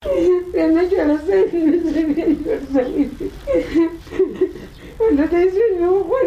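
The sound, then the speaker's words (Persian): A mother whose child was killed by Australian soldiers cries, her voice rising and falling in wavering, sobbing wails that run almost continuously, with short catches of breath between the cries. “صدای گریه یکی از مادرانی که فرزندش توسط نظامیان استرالیایی به قتل رسیده است.”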